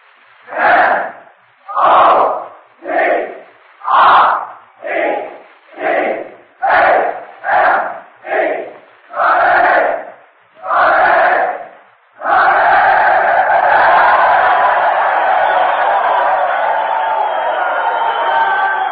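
The men of the Notre Dame university student body shout a rhythmic chant in unison, a dozen loud, evenly spaced bursts, then break into sustained roaring cheers and applause.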